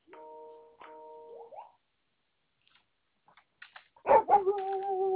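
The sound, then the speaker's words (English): A dog whines in drawn-out tones, goes quiet for a moment, then lets out a sharp bark that slides into a sustained, yelping howl. “No barking.”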